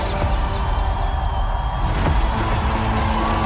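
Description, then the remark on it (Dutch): A large crowd at a Q-Music party at Flanders Expo applauds and cheers loudly to welcome performers, a dense, steady roar of clapping and shouting with scattered whoops that holds at full volume for the whole few seconds. “Geef ze een daverend applaus.”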